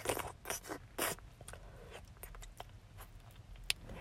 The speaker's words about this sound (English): You're buckling up your belt. I like the sound of that.